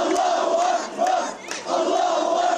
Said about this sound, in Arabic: في شوارع بلاطة المخيم الأكبر في الضفة الغربية، المئات شيعوا جثمان الطفل الشهيد وسط هتافات بالانتقام من المحتل الإسرائيلي